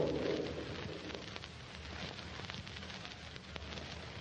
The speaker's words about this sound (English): Hours pass, and the steady downpour continues.